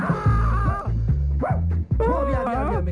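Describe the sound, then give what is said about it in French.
A dog barks and yelps several times in quick succession, loud, over a steady, pulsing low rumble. “Mais oui, j'ai peur des chiens.”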